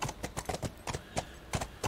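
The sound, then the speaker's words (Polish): Horse hooves clip-clop in a steady, brisk rhythm while someone rides, about eight sharp hoofbeats in two seconds, fairly clear, with no voices over them. “Słuchajcie, ja bym tutaj chyba zszedł z tego konia. Bo to fajnie się jeździ, ale i tak trzeba schodzić, jak się chce cokolwiek zobaczyć.”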